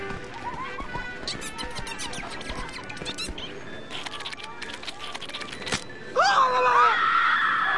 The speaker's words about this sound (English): Listen to everybody scream. These rides must be scarier than I thought. What a bunch of scaredy things.